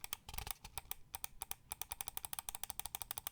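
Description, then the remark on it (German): A rapid run of crisp, dry right-button clicks on a Corsair Seima V2 Pro Ultralight Wireless mouse, starting uneven and settling into a fast, steady clicking rhythm with nothing else in the background. “Rechte Maustaste.”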